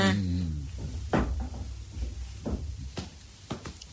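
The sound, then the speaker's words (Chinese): A door is shut and bolted: a handful of sharp wooden clunks and clacks land at irregular moments, fairly loud against a low steady hum, with a short voiced tone fading at the very start. “诶、啊，闩好道门啦吓、啊。”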